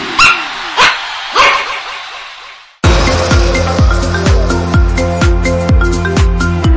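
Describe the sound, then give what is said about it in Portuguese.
Several dogs bark in a few sharp, loud bursts with echoing tails, then the barking stops and music with a steady beat abruptly takes over. “Aqui até a cachorrada ouve!”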